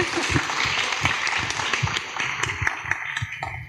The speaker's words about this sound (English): And Project Artworks has been shortlisted for the Turner Prize this year, so that might be another reason. A round of applause, don't you think, for that?